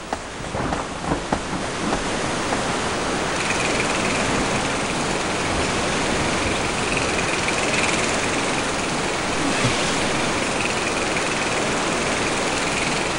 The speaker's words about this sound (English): Are you swimming over a waterfall? Uh-huh. Scary. Is it raining? Yep.